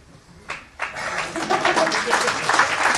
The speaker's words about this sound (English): You know who you are applauding with this.